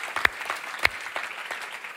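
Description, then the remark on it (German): A church audience in Nuremberg, Germany, applauds one another in a dense, steady patter of applause, with a couple of sharper, louder claps standing out near the start and a bit later, no voices. “Hey, wie wäre es, wenn wir uns allen gegenseitig nochmal einen riesen Applaus geben?”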